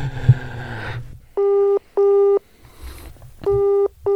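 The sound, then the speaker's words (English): A phone line's ringing tone: paired electronic buzzes, two short bursts, a pause, then two more, loud and clear after a brief stretch of muffled background noise. “Call him.”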